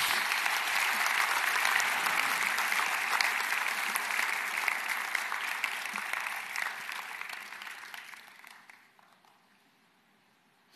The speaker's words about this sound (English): Give them a hand as they go.